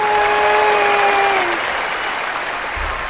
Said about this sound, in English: I think that was the people on the left applauding that Tucker Carlson left Fox News, probably.